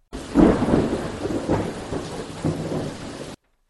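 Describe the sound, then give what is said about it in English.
A thunderstorm at sea rages with deep, rolling rumbles of thunder over steady heavy rain, loud, swelling in a few surges before cutting off abruptly. “The sailors didn't want to kill Jonah, so they tried to row back to the shore, but the storm got worse, and eventually when nothing else had worked, they picked Jonah up and threw him overboard.”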